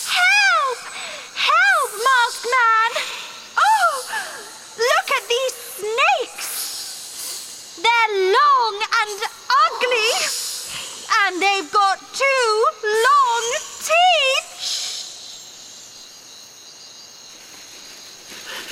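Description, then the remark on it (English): A run of high, warbling vocal squeaks and chirps gives way to a steady, airy snake hiss that carries on softly for several seconds at the end. “I've got the snakes.”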